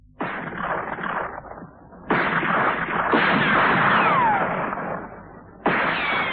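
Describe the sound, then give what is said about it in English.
Four loud gunshots, two rounds fired by each of two shooters, ring out at uneven intervals, each a sharp crack followed by a long, rumbling echo that fades slowly. No one speaks. “Two rounds, Phil. Each.”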